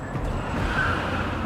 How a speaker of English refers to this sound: A car blocks it. The man reverses as a car pulls up behind him.